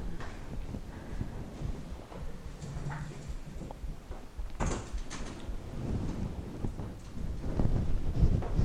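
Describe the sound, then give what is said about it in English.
A door is slid shut during a meditation class, a short dull thump with a brief scraping rush, against steady low rumbling background noise with no talking. “Do you want to close the door so that you can hear better?”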